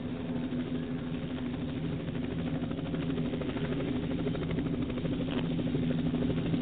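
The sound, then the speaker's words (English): A Mexican police helicopter drones steadily overhead, its low, continuous engine and rotor hum holding at a fairly even level throughout, with no voices. “Like the Mexico police are not liking it. Sending the helicopters in.”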